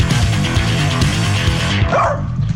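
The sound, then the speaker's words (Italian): A dog named Peggy barks loudly in a rapid, dense burst, then lets out a short rising whine near the end. No one speaks. “No, non abbaiare.”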